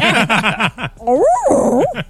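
A dog barks in a quick burst of five or six sharp, high yaps, then breaks into drawn-out, wavering whines that rise and fall, loud with no one talking.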